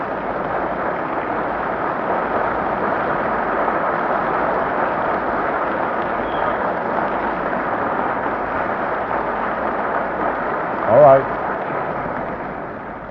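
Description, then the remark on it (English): Sustained audience applause after a lecture at a religious science event in Alice Tully Hall, Lincoln Center, New York, a dense and steady patter of many clapping hands lasting the whole stretch, with a brief louder burst near the end. “I just want to be sure you're applauding my lecture and not the champagne.”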